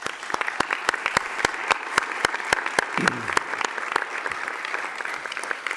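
An audience at a university alumni event claps steadily for several seconds in thanks to a supporting family, a dense wash of many hands with sharper individual claps standing out, holding a fairly even level throughout with a brief murmur partway.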